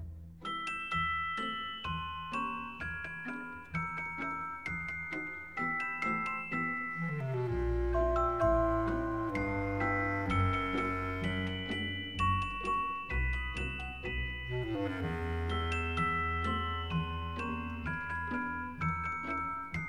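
A celeste, a small piano-like instrument with metal bars inside instead of wire strings, plays a steady, tinkling melody of bright bell-like notes over a warm, sustained low accompaniment, continuous and clear throughout with no voices.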